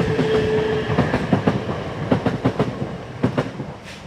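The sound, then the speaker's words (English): A train rumbles past a railway level crossing with barriers, its wheels clacking over rail joints in a steady rhythmic series of loud, sharp beats, with a brief tonal whine early on. “If only it wasn't for these railway barriers, we'd be there by now. Yeah, we're late. There goes the train.”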